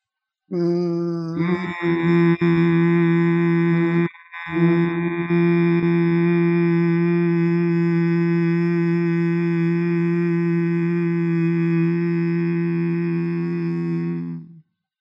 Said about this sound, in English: And as you're doing this, perhaps being aware of where the vibrations of the hum are occurring.